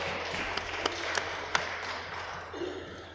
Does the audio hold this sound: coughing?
no